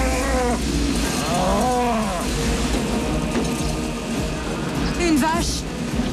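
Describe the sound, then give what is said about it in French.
A cow caught in a tornado in a scene from the film Twister lets out several drawn-out, wavering moos over a dense, continuous roar of background noise, the calls sounding strained. “Julia, on a des vaches.”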